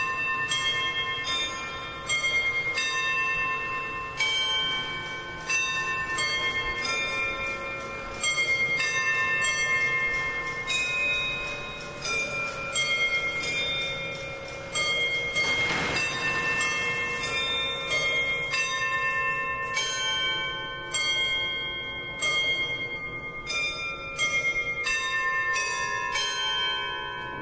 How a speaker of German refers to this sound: Die Uhr schlägt zu jeder vollen Stunde, um 12 und um 24 Uhr erklingt das Glockenspiel und die Apostel beginnen ihren Lauf.